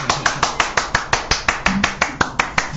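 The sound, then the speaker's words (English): Applause from what sounds like a single pair of hands: about fourteen sharp, evenly spaced claps in a quick, steady rhythm, with no talking, applauding a live cover performance on the radio show Curveballs on Phoenix FM. “Yes, the rest of it was rather good as well, so have some applause.”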